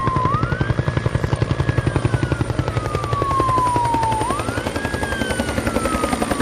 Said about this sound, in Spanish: Helicópteros y aviones anfibios sobrevolando los cielos de Collado Villalba. Tenemos que decirte que no hay malas noticias. No había ningún incendio cerca, pero sí que se ha estado celebrando un simulacro de extinción de incendios forestales